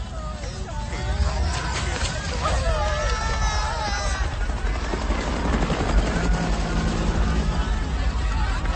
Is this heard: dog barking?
no